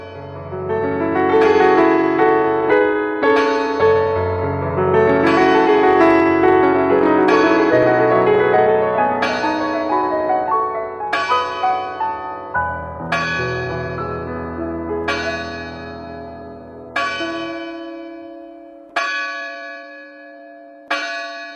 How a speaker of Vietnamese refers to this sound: Giữa thinh không, tiếng chuông đồng hồ gắn trên đỉnh nhà thờ Tin Lành Raymond thong thả buông 12 tiếng.